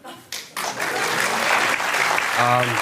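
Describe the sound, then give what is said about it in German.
Audience applause rises after a couple of brief bursts and continues as a dense, steady wash of clapping, with a voice briefly audible near the end. “Und das sage ich nicht, um von Ihnen, meine Damen und Herren, jetzt an dieser Stelle einen großen Applaus zu bekommen.”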